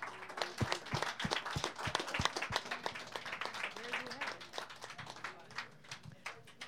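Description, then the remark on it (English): An audience applauds with dense, steady clapping for several seconds, a few heavier thumping beats standing out early on, while faint voices murmur and cheer underneath. “Another round of applause for an amazing job”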